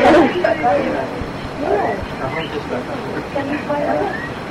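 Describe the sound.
A talking bird repeats word-like calls, saying "Gurudev" and "Krishna" in a voice imitating human speech, a few short phrases over a steady, rumbling background noise.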